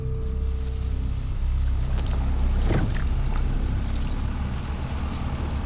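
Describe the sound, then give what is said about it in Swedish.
A leisure motorboat's engine drones steadily, a constant low rumble with water splashing and sloshing against the hull throughout, as Lillhege and Oddvar's boat arrives at Utøya carrying the Delta police task force. No voices. “Lillhege och Oddvars fritidsbåt är nu framme vid Utöya.”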